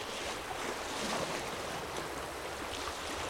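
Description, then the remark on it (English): Steady, wide-band rushing of a grey boat moving along a river on a sunny day, a continuous wash of splashing and hiss with no distinct pauses, even in loudness throughout, with no voices. “Here's a boat.”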